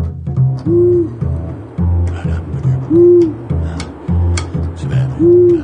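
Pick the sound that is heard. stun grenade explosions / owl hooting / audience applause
owl hooting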